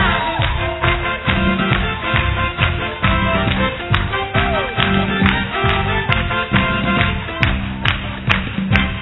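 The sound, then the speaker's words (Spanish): A whole theatre audience claps in steady rhythm along to lively carnival music with a strong beat, the sharp claps repeating evenly and mixing with the band at a fairly loud level. “A ver, todo el teatro haciendo palmas, que se define danza americana.”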